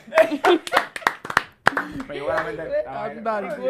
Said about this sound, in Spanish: Ahora sí, el aplauso.